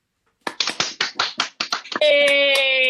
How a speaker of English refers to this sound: Hey! I think that's the first time I've ever asked for a round of applause on Zoom, but I think it worked.